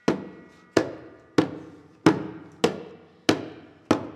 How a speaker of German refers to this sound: Das Gespenst mit seiner rostigen Rasselkette steigt herab. Es kommt die Treppe herunter.